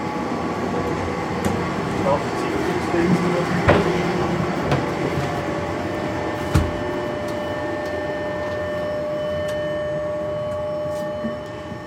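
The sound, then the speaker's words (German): An older-model tram being started around 4 a.m., before service begins, so it can heat and its power converters can start up: a steady electrical hum with thin whining tones layered on top, broken by a couple of sharp clicks. “Die muss ein bisschen vorlaufen, die Umrichter müssen anlaufen.”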